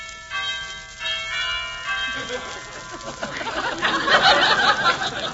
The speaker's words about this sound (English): Well, I'll ring the bell.